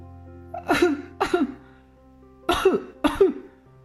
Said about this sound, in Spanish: Pero el frío de la noche le hace temblar y el pequeño rey empieza a toser.